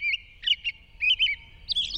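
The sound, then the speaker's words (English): A robin's evening song, played at half speed, in short, bright warbling phrases separated by brief pauses, clear, with a faint low rumble underneath and no voices. “In the high latitudes, where twilight lingers late into the evening, a robin may expand its daytime carols into a twilight symphony that continues for hours.”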